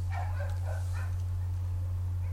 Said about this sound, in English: Sounds like a very strange dog. There's a sad, strange dog outside we can hear. It sounds like it's laughing. I hear sadness in its laugh. Like Pagliacci.